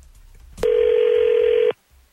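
A phone call being dialed on the 102.9 The Wolf morning radio show for its Second Date Update segment: a sharp click, then one loud, steady telephone tone that holds for about a second before cutting off abruptly. No one speaks.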